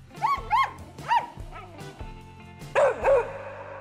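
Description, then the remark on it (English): A dog barks in a quick series of sharp yips and woofs, pausing briefly before two louder final barks, with a faint steady hum underneath. “So now, I think I'm going to go grab some treats and stare into both my dog's big brown puppy eyes.”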